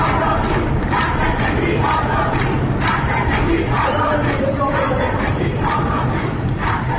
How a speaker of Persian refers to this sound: صدای اعتراضی این وکلا رو میشنویم.